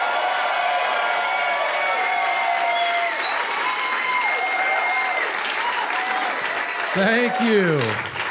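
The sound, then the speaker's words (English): A crowd applauds steadily for several seconds as the first comedian of the evening is welcomed to the stage, a dense wash of clapping with scattered cheers and whoops rising over it, swelling briefly near the end. “Give it up for John Huck, everybody.”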